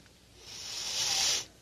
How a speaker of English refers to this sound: Nothing? No. Take a bigger sniff.